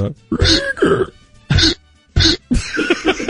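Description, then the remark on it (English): A man's loud, abrupt hiccups come in an irregular series, each a short voiced gulp with a slightly honking, squeaky edge, separated by brief silences and ending in a longer run of bursts. “He's got the hiccups.”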